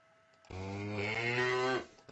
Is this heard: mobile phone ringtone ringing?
no